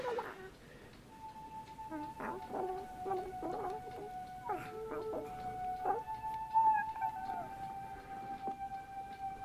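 A dog named Barney gives a long, steady, high-pitched howl that holds for several seconds, broken by short whimpering yelps and gurgling chirps before and alongside it, with no talking.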